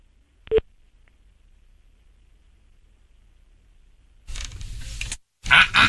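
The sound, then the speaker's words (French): A sharp click cuts the line, followed by a few seconds of silence, then two harsh, buzzy bursts of a busy tone, loud and slightly distorted. “On a coupé la mère, on a coupé la fille. Oh, ben sa fille a dû couper.”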